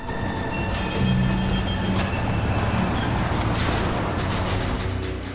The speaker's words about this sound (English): A metal roller door is raised to allow Samir to drive the yellow cab through and up a ramp into a large workshop.